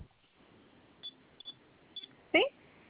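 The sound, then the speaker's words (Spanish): Three short, high-pitched beeps as the pound (#) key on an alarm panel keypad is pressed three times, spaced about half a second apart, followed by a louder, longer electronic burst over a faint background murmur. “Vamos a presionar tres veces la tecla de gato.”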